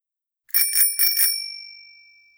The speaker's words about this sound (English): They went to find Mr. Fox's van. Mr. Fox did have a new bell in the van.